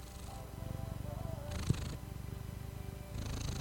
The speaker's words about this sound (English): Yeah, listen to that. That purr kitty. It's a purr kitty. Come on now, Podcat. Hop on down.